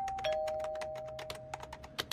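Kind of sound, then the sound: household object, doorbell ringing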